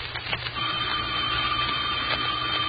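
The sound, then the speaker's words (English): A telephone bell rings in a steady, continuous burst, its bright metallic tone sustained over a background of hiss and low rumble, with no voices. “The phone. I won't answer it.”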